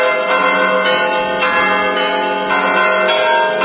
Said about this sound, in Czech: Ovo što čujete jesu vatopetska zvona i pod jednim velikim baldahinom nosi se ikona Presvete Bogorodice u krug oko crkve i oko cijelog manastira